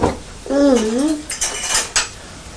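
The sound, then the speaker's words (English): Metal pots and utensils clatter and scrape while being washed, opening with a wavering metallic ring followed by several sharp clanks and knocks of cookware and cutlery. “We need to wash up our pots.”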